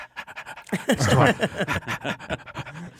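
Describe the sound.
A person imitates a dog panting, producing a quick rhythmic series of loud, breathy huffs for about three seconds, with no talking.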